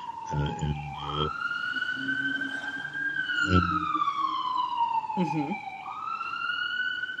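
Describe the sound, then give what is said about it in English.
An emergency vehicle siren wails steadily outside, its tone slowly rising and falling, while a voice speaks in short bursts over it. “You have sirens there.”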